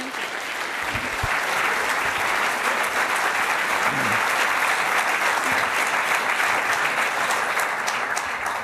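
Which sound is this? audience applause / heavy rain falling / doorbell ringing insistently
audience applause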